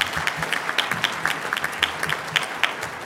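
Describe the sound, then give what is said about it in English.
A crowd applauds steadily, a dense patter of many hands clapping at an even, sustained level with sharp individual claps popping out of the wash. “So let's have a big round of applause”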